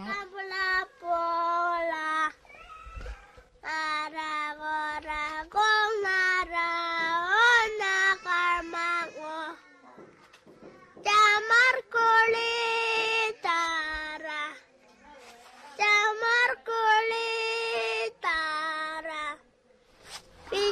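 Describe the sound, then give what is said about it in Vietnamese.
Aboriginal Australian children sing a nursery rhyme together in high, clear voices, moving through several short melodic phrases separated by brief pauses, fairly loud with no instruments. “Bây giờ mình nghe thử một khúc đồng dao do trẻ em thổ dân Úc hát nha.”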